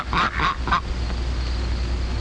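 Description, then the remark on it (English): Three quick, nasal honks from farm ducks ring out in a rapid burst, then give way to a low steady background hum. “Farm ducks need to have their wings clipped.”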